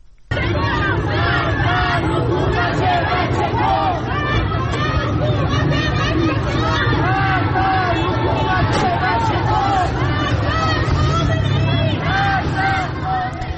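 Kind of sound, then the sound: crowd, protest crowd chanting slogans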